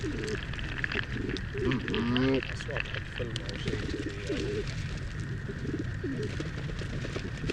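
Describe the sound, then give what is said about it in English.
Ducks in a park call in short, irregular bursts of nasal, mid-pitched quacking, one brief louder cluster standing out, all over a constant rushing background noise. “Ducks.”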